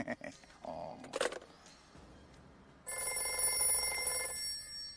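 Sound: telephone ringing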